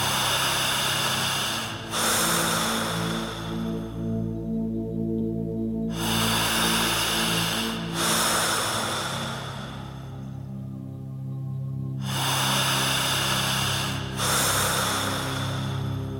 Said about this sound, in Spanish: En tercer lugar, usted tendrá que respirar todo el tiempo de esta manera.